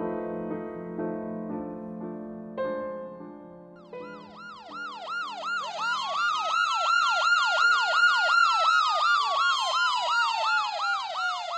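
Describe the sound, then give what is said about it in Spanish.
Ambulance sirens arriving at the scene of a plane crash in Suhdol, in the Czech capital's area. A steady two-tone wail starts, then several sirens join in with fast, overlapping yelping sweeps that stay loud until the end. “Las primeras 3 ambulancias llegaron al lugar de la tragedia tan solo 5 minutos después del aviso telefónico del accidente.”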